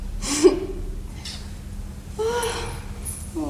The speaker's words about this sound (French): Oh, oh, je baille déjà.